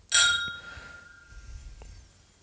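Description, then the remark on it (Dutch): Two glasses clink together once in a toast, bright, their ringing tone lingering and fading over about a second against quiet, low background noise. “Nou, proost op het derde seizoen, jongen.”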